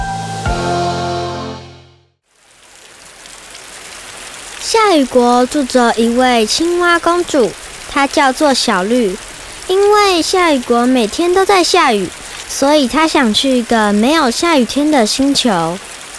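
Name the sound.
steady rain falling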